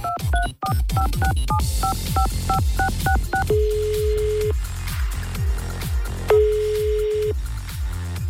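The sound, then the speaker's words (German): A rapid series of touch-tone beeps as a phone number is dialed, followed by two long ringback tones on the line, all over a steady rhythmic music bed with no talking. “Deswegen habe ich jetzt alle Telefonnummern gesammelt. Und eine, ja, suche ich jetzt mal hier raus.”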